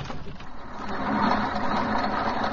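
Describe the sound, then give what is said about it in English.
A ship's engine runs with a steady, loud mechanical drone, a low rumble and broad churning noise, continuing without pauses and swelling slightly partway through. “You never saw such an engine in all your born days.”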